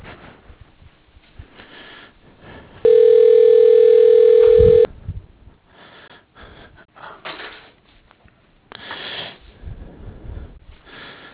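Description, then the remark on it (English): A steady electronic phone tone sounds for about two seconds, loud and unbroken, as a call is transferred over to another person, between stretches of faint breathing and rustling on a quiet telephone line. “I'm going to transfer the phone over to her, and then both of us will get on, all right?”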